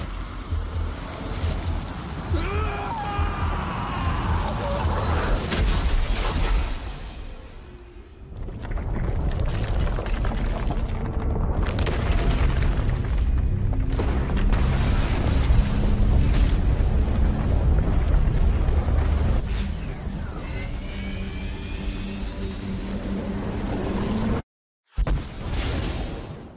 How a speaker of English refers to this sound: Captain, we just saw the explosion. What happened down there?